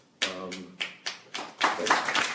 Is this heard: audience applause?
yes